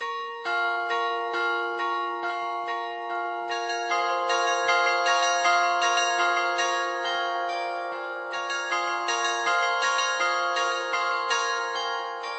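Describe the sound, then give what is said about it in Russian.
Church bells in the Czech Republic ring in a steady, continuous peal, strike after strike overlapping into a dense, shimmering wash of resonant tones. The ringing stays loud and even throughout, with no voices. “Ну а теперь уже очередь Марины Фетловой и мини-рубрики «Колокола Чешской Республики».”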